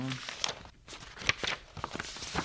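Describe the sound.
Soft footsteps shuffle as a man jumps up from a sofa and fetches a folder of adoption documents, mixed with the crisp rustle and crinkle of paper being handled as he searches for a document, quiet and irregular, with a faint murmur of voices underneath.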